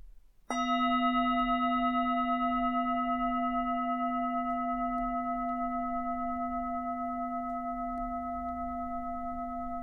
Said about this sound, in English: We'll begin and end the practice with the sound of the bell.